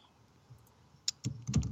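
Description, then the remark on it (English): A sheet of paper, a copy of an ad script, is shaken, giving a few quick crinkly rustles that build into a louder flapping burst near the end, with no voices. “Shake that around for me again one more time.”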